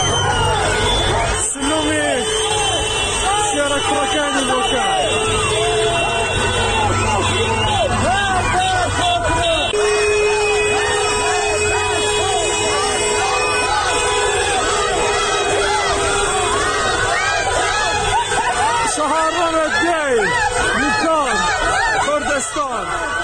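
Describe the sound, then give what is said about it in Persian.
A large protest crowd in Bukan, Iran, gathered after a 40th-day memorial for those killed in recent protests, chants slogans such as "Death to the dictator" in loud, overlapping voices, with shouts rising above a constant roar of many people for the whole stretch. “تجمعات در بوکان به دنبال برگزاری مراسم 40 جانباختگان اعتراض‌های هفته‌های گذشته شکل گرفت و معترضان شعارهایی از جمله مرگ بر دیکتاتور سر دادند.”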